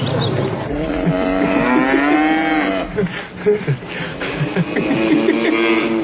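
A cow moos loudly in a pasture, a long, drawn-out low call followed by further moos, with no talking over them.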